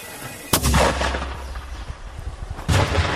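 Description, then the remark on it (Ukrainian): Two heavy mortar shots boom out about two seconds apart, each a sharp, loud blast with a rumbling low tail, against a steady background of wind and noise. “Стреляє, да. Міномет пішов.”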